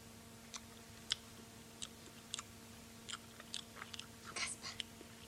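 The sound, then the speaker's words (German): Wet, smacking chewing noises of a giant eating in a Kasper puppet story come in irregular bursts, a dozen or so crisp crunches and smacks over a low steady hum, with no one speaking. “Hör mal. Also doch. Riese Schmatz-Schmatz.”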